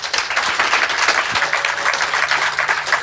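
A crowd applauds steadily, dense overlapping claps forming a loud, even wash of sound that holds for the full few seconds without pause.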